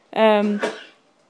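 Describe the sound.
A single loud sneeze on its own: a voiced, drawn-out 'ah' that breaks into a short, sharp, hissing burst, then quiet.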